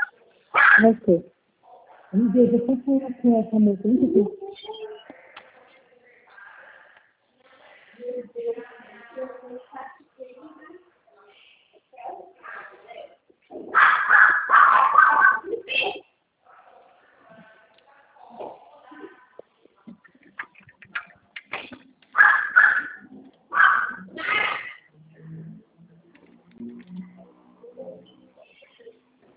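dog barking and whimpering

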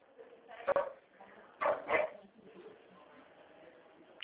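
dog barking

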